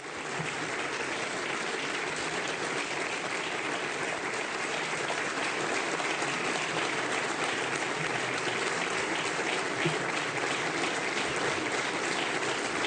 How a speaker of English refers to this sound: So that's quite a thunderous applause.